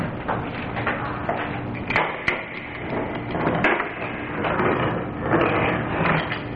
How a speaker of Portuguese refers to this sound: Tenha bondade, pode abrir a gaveta para esta senhora identificar a morte.